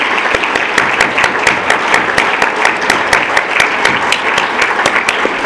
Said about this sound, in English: There's a list of those people in your folder, but I would like all of you who are on the committee to please stand up and let's give them a round of applause. Come on, don't be shy.